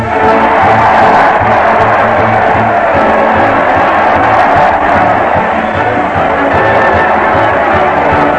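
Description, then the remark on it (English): A large crowd cheers and roars loudly and steadily for the whole stretch, a dense wash of shouting voices with no single speaker standing out, cheering Fred Allen as he leads his weekly parade to the old Town Hall on the radio show Town Hall Tonight. “Listen to that crowd. They're cheering Fred Allen as he leads his weekly parade to the old Town Hall.”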